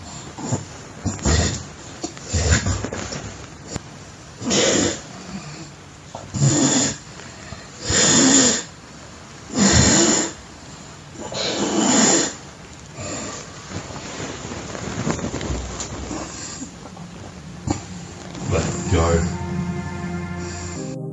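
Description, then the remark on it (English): During a physical struggle, a person chokes and struggles for breath, letting out a series of harsh, rasping gasps in irregular bursts, with strained vocal noises and scuffling between them. “The choking sounds can be heard for around a minute before the struggle intensifies once again.”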